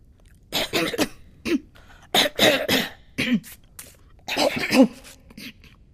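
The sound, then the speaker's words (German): Several short, small coughs and throat clearings come in irregular bursts, fairly quiet, with brief pauses between them and no talking. “Verlegenheit, mehrmaliges Hüsteln.”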